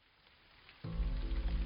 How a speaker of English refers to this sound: The rain came out of nowhere. 1 minute, I was walking home under a grey but dry sky, and the next, it felt like the heavens had opened up.